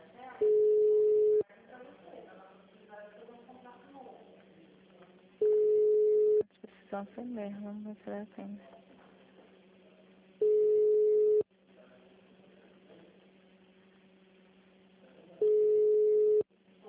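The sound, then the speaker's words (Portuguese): Telephone ringback tone while waiting for an agency to answer after an automated phone menu: four steady, mid-pitched one-second beeps about five seconds apart, with faint muffled sounds filling the gaps between rings. “Demora pra atender o telefone.”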